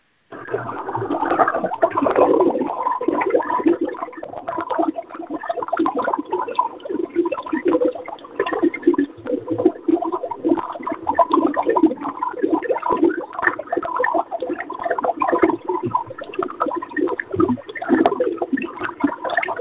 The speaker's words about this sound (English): And now, here are your bubbles.